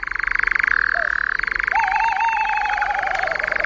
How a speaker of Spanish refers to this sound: Ronronean los chotacabras europeos, aves de la noche.